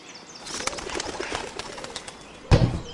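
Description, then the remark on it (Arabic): A pigeon's wings flap rapidly as it takes off, a rustling, fluttering burst that continues for a few seconds and ends in a louder thump of wingbeats. “بدأت الحمامة أحبتي في الطيران، وبدأ الأرنب يحرك كلتا يديه بالريش بسرعة كبيرة. ارتفعت الحمامة في الهواء”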